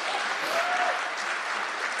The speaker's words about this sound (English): Wait, clap. You have to clap for broadcasting.